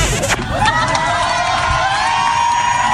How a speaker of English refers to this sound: What are you doing? Why are you applauding?